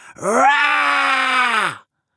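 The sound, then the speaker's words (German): A single loud, sustained roar from a human voice imitating a tiger, roaring as loudly as possible, rising sharply and holding steady for over a second before cutting off, forceful with no other sounds. “brüllt mit, so laut er kann.”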